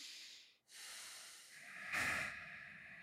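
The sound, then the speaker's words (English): Slow, deep breathing through the nose as a breathing exercise, with the exhale twice as long as the inhale: a steady, airy rush of air, a brief pause, then a louder, slightly whistling nasal breath. No one speaks. “And then you would lay on your back in the park and do deep breathing exercises where your exhale is twice as long as your inhale. So through the nose.”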